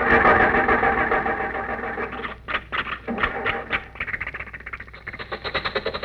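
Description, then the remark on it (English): A car motor flooded with too much gas grinds and cranks as Rochester tries to start it again, coughs through a few uneven sputters, then catches into a quick, steady chugging rhythm. No one speaks. “The motor is flooded. It's got too much gas.”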